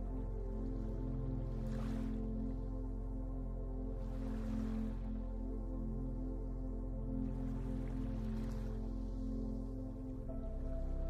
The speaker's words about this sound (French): Vous vous laissez bercer par le chant délicieux des vagues.